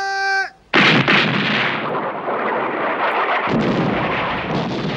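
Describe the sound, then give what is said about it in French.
A brief whistle-like harmonic tone, then a sudden loud volley of gunfire, fired on a spoken command by a wave of soldiers with bayonets fixed, bursts into sustained, rumbling battle noise with continuous crackling shots and heavy booms, dense, with no voices. “Dixième vague, baïonnette au canon ! Baissez la tête ! Feu !”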